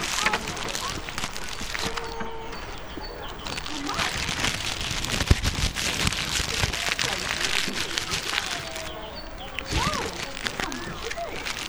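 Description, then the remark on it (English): Steady rain pours down in a park in a dense, crackling patter that continues throughout, with a few faint voices and brief splashy sounds of people splashing in puddles surfacing now and then beneath the downpour. “It started to rain and we splashed in the puddles.”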